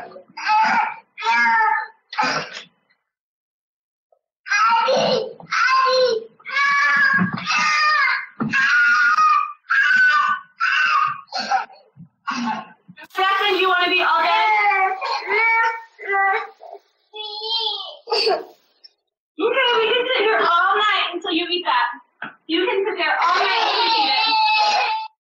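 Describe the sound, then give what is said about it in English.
A toddler boy yells for his daddy and cries in loud bursts that break into sputtering, choking and gurgling sounds as food comes back up, caught on home security cameras, with short pauses between the outbursts. “And you can hear where he starts actually choking and gurgling up the food.”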